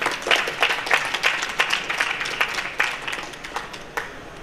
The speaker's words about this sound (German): Dann würde ich jetzt aber auf jeden Fall nochmal sagen, großes Applaus.